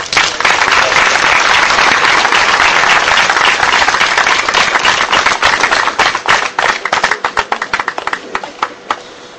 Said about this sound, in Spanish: Bueno, gracias por los aplausos.